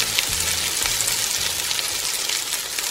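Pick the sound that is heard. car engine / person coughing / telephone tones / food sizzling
food sizzling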